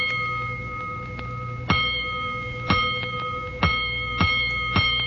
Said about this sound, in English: Soon after the now raging firemen returned to quarters, the great gong that sounds alarms tapped in during the night rings out.